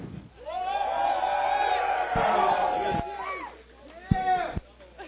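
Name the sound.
audience cheering and whooping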